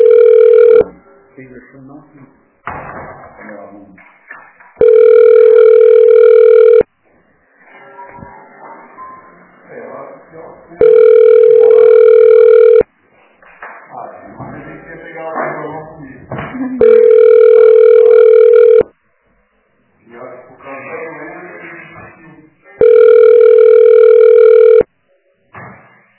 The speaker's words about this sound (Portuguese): Eu gosto assim, quando chama e eles não querem atender o telefone.